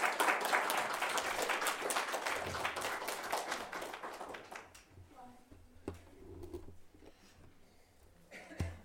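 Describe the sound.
A crowd applauds in a dense burst of clapping for several seconds, then the clapping thins out and dies away, leaving scattered claps and faint voices in the room.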